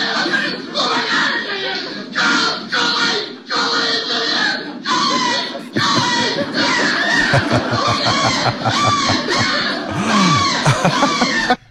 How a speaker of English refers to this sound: Oh my word, listen to those screams.